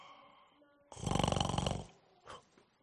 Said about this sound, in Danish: Men den gamle skrumar, han sad og sov videre og snorkede stille.